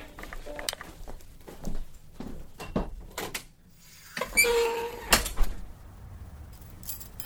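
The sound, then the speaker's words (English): A recording booth door slides closed with a brief rushing scrape and a firm thud, amid scattered light clicks and shuffling footsteps. “One is great, and two, I didn't hear you because I had the door to the booth closed, and you cannot hear anything outside of this door.”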